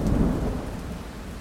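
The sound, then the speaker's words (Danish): A steady downpour of heavy rain with a low, rolling rumble of thunder underneath, loud, continuous for the whole stretch with no voices. “De her skyer er nemlig fyldt med alt det vildeste vejr. Lyn og regn og nogle sindssygt kraftige vindstød.”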